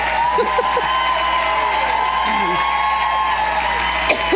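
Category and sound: crowd, crowd cheering and applauding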